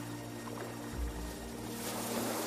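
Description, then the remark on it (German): Steady rushing surf of long ocean waves washing onto a beach of clean turquoise water and slowly running out, a continuous wash of water noise over a low rumble, swelling slightly brighter near the end, with no voices. “Auf der linken Seite wirft das Meer lange Wellen an den Strand, die langsam auslaufen, dir sanft entgegenkommen.”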